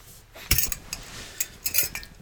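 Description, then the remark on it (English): Beer being poured into a glass: several sharp glassy clinks and knocks spaced unevenly over a couple of seconds, with a soft, steady fizzing wash between them. No one speaks. “I'm going to pour myself another.”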